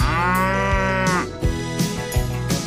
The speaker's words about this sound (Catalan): Hem anat per bon no tocar i m'ho hem ficat dins una finca amb unes vaques que no t'imagines lo grosses que són. És a dir, heavy, és a dir, enormes.